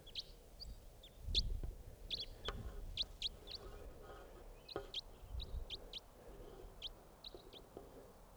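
wild bird calling

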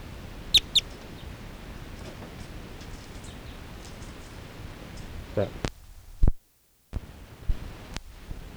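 bird call being recorded

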